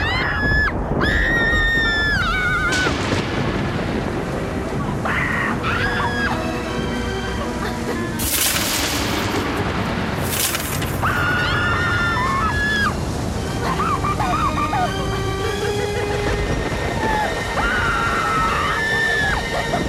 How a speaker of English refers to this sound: … crawls under the bed with … and begins to scream with him.